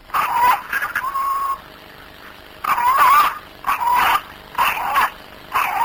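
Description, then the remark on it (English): A cockerel crows in a series of strained, wavering calls, each burst rising and falling in pitch with short pauses between, heard alone with no talking and a thin, hissy quality; recorded on a mobile phone, its crow thought by people to sound like the word Allah. “Right, so we've actually got that recording, so let's just hear the cockerel crowing now.”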